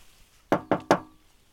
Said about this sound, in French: Mais je vais quand même aller toquer à la porte.